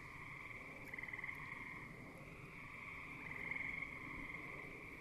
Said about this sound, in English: field across the street from my house in Hanacroy, New York, surrounded by fireflies, and not too far from a pond where the gray tree frogs are trilling and the bullfrogs are singing their low tones and the green frogs are plunking away occasionally.